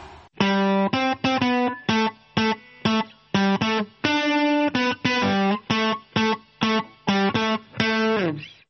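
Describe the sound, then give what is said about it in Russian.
A short, punchy instrumental radio show intro jingle of bright, distorted synth-like chords hits in quick staccato bursts, loud, then stops abruptly after a few seconds, cut short for technical reasons, with no voices. “Ну вот так, мы начинаем, так уже затихает все потихоньку, и даже полной заставки мы почему-то сегодня не даем по техническим причинам.”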